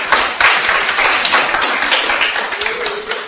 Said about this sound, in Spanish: ¡Sí! Un aplauso para el Señor porque llegamos al 4.